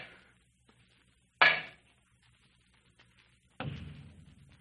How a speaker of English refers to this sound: With my earthenware jug, I knocked against the wall where the sound came.